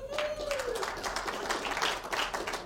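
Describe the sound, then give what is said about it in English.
A crowd at a Barah Ministries Bible study clapping to welcome a visiting friend from Detroit, a steady, dense patter for a few seconds, moderately loud, with a brief high whistle-like tone at the start and some voices mixed in. “Were you clapping for him or for Detroit?”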